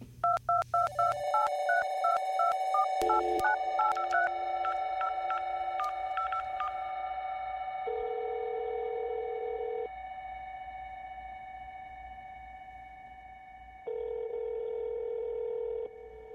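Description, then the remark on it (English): A rapid sequence of touch-tone dialing beeps, followed by steady, repeating ringback tones of an outgoing, pre-recorded phone call, clear with no one speaking. “On the phone with”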